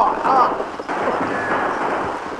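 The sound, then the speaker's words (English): A dense, noisy burst of gunfire in a shootout with road agents, the shots blurring into a loud continuous roar and rumble, with voices faintly mixed in underneath. “Good shooting.”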